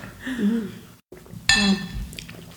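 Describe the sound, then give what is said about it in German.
Glasses of light white summer wine clink together once in a toast, a bright ringing chime that lingers briefly, with low murmured voices around it. “So, dann stoßen wir jetzt mal noch mal schnell bitte an. Mit einem dünnen Weißwein.”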